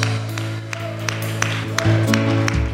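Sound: audience applauding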